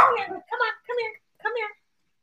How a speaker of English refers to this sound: Come here. Sorry. You're barking at the cat, maybe.